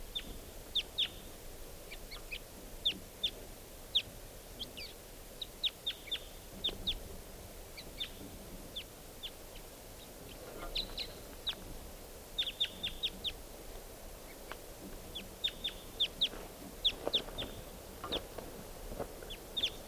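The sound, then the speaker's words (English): A lone wild bird sitting by itself in a treetop calls over and over, giving short, sharp, high-pitched chirps in irregular bursts above a steady low background rumble, with no voices. “One of the birds is sitting down in a treetop by itself. Step. Here's that lone wild bird.”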